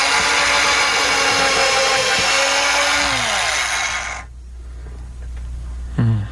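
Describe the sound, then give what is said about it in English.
A power drill whirs loudly and steadily for about four seconds, its pitch shifting as it works, then cuts off abruptly, leaving a low hum and a brief thump at the end. “It was a drill.”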